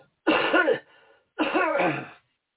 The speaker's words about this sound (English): Had to clear my throat.